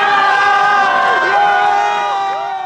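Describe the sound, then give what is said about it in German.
A loud crowd cheers and shouts continuously outdoors on the Bundesplatz after Simonetta Sommaruga's election, a dense roar of many voices with high whoops and rising calls layered on top, sustained without pause. “Jubel auch draußen auf dem Bundesplatz.”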